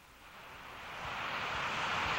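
The Fall Creek waterfall in Ithaca, New York, drops about 90 feet into a pool with a dense, steady roar that swells slightly louder over a couple of seconds, with soft low thumps beneath and no voices.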